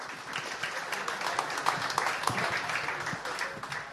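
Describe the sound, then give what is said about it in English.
A crowd applauds steadily for volunteers coming onto a stage, a dense patter of many hands clapping at once, sustained without pause, with no voices standing out. “A little round of applause.”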